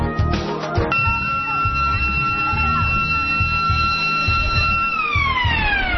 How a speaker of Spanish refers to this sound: La sirena de un colegio del sur de Madrid está llamando a los niños a clase.